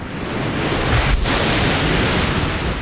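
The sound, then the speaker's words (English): A lightning strike: a sharp, crackling burst snaps out about a second in, set within a loud, continuous roaring rumble that stays steady until the end. “There was a massive flash as the lightning bolt struck.”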